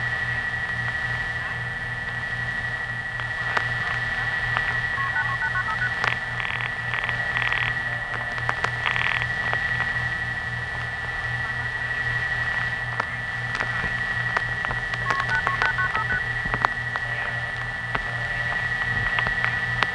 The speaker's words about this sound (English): So instead of Atlanta's dial pulsing, you'll hear this. Revertive pulsing. And of course this. Multi-frequency tones.